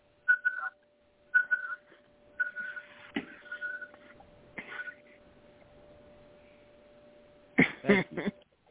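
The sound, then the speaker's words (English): A liquid level indicator hung over the top of a cup beeps as the drink reaches the top. It sounds in short, high-pitched electronic bursts, four or so in an uneven rhythm, over a faint steady tone, followed near the end by a brief louder, harsher burst. “But what my device does is goes, hear the beep? Yeah. That is what they call a liquid level indicator.”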